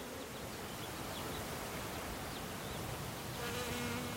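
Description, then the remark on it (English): A dense, steady drone of many honeybees buzzing around a hive, with individual bees humming louder as they pass by near the end. No voices. “This is the traditional way to bring more bees into an area with hives of honeybees.”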